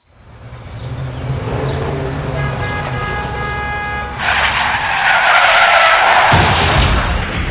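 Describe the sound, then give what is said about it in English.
A car engine rumbles, then tires let out a long, high squeal before a loud, noisy crash and a heavy thud, with no one speaking. “This can't be happening. Look at my car.”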